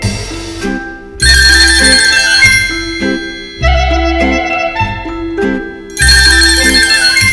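A loud, melodic electronic phone ringtone plays with bright chiming tones over a bass pulse, its pattern restarting in bursts about every two and a half seconds, with no voices.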